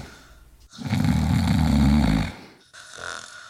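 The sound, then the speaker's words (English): A deep, rumbling dinosaur snore sound effect swells loudly for about two seconds, then a softer, raspier breath follows, with no one talking. “The party slowed down as the day was no more, till all you can hear are dinosaur snores.”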